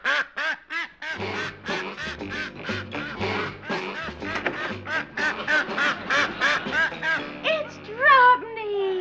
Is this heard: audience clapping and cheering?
no